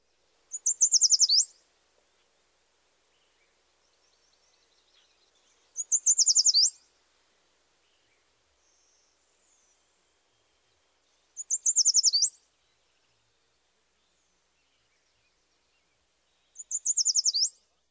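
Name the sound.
yellow warbler song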